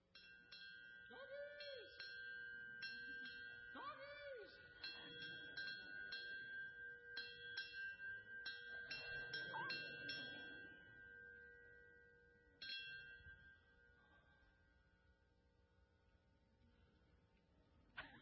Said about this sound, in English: we do have a great big bell on our front porch